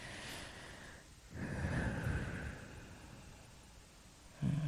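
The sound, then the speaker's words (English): A long, airy inhale followed by a deeper, rushing exhale, then a brief sharp breath at the end. No one speaks. “Breathe into that.”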